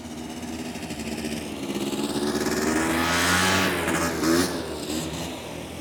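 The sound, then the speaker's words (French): A small scooter engine buzzes on a tiny island, its whine climbing as it draws near and peaks around the middle, then easing slightly as it moves off. No one speaks. “On circule à scooter ou à vélo, sans casque.”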